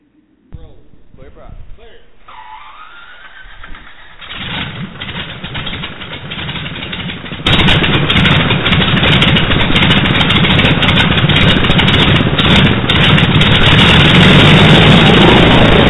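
A big R-2800 radial aircraft engine cranks with a whirring starter and sputtering pops, then catches around midway and settles into a loud, rough, steady idle roar.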